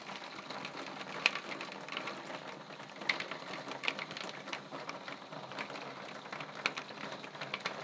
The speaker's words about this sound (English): Downstairs, and have a listen to this. This is the rain hitting my back door.